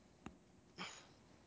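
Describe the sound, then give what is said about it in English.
A person imitates a dog with two short, gruff barks, a quick clipped one followed by a slightly longer, breathier one, with no talking. “I just heard … like bark or something.”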